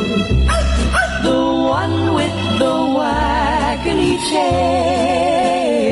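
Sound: dog barking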